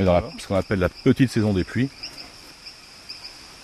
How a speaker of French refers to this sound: Ah, ces espèces de cliquetis là, ce sont des petites grenouilles qui se livrent à leur chant d'amour, alors surtout les mâles, hein, qui chantent.